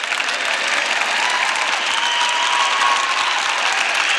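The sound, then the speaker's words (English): A large audience at a conference applauds steadily, a dense, sustained wash of clapping that stays loud and even throughout with no voices standing out. “You can clap if you want to.”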